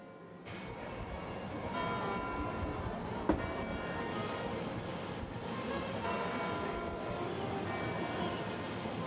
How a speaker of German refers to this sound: Der Marktplatz am Nachmittag ist gut besucht. Die Glocken der Marktkirche läuten.